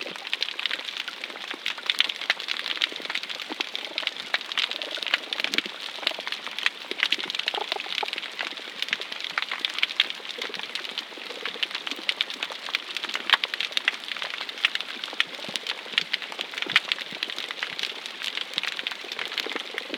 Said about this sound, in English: The rain starts.